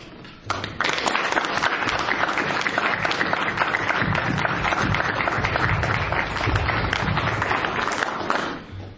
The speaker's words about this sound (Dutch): dat we hem een grote dankje wel zeggen. En er is maar één manier hoe dat hij deze dankje wel zal horen, is dat we hem een applaus geven dat hopelijk via het audioverslag hoorbaar zal zijn tot in de hoorkamer.